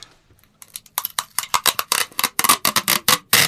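Tesafilm sticky tape being pulled off a dispenser roll as a sound effect meant to imitate a door opening: a string of quick crackling, ripping bursts that start faint and grow louder and steadier, with no voices.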